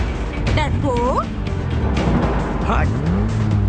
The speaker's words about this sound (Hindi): क्यों अनाड़ियों की तरह से गाड़ी चला रही हो? प्लीज यहीं पे रोकिए, मुझे उतरना है।